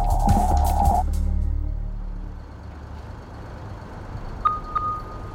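Heavy engines idle in a steady low rumble, with a loud blast and hiss at the start, then two short high beeps near the end like a truck backing up.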